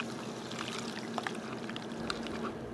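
A cocktail pours steadily through a tea strainer that removes tiny ice shards, a continuous trickle with small scattered splashes and drips over a faint low hum, no voices.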